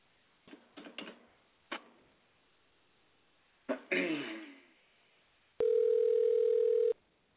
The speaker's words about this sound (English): We're ringing.